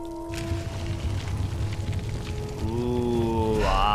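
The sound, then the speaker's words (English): Water pours steadily into a basin, a continuous gurgling rush with a ringing tone that climbs in pitch as the basin fills, growing slightly louder toward the end. No voices. “Fill our water basin.”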